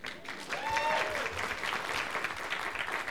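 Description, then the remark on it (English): A crowd applauds the band in a steady, dense wash of clapping that holds for about three seconds, with a brief rising-and-falling whistle cutting through near the start. “Yeah, you clap for them.”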